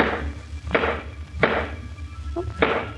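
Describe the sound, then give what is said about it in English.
Hammer blows strike wood at a slow, uneven pace as a woman fixes a squeaky floorboard: four sharp impacts over a low steady background hum, with a light tap just before the last blow. “Oh, squeaky place in the floor. She's fixing it.”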